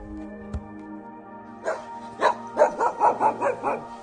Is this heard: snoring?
no